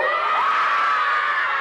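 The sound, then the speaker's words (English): A group of children roar together like lions on cue after a count of three, one loud, sustained, high-pitched shout of many voices that holds steady for the whole moment, with no other talking. “Now, when I count to three, I want to hear lions.”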